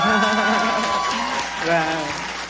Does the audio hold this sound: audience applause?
yes